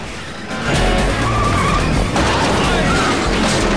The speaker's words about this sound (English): lowers a ramp onto the third of Gundar's cars, allowing them to reverse off the lorry